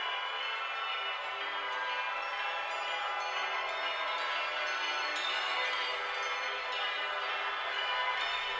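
A dense, shimmering wash of bell tones rings continuously. It comes from a tape loop of bells played on multiple boomboxes started at the same time, layered and slightly out of sync and out of phase. It forms a steady cloud of sound with no talking.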